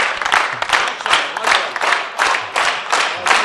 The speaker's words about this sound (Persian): مرسی تشویق کنیم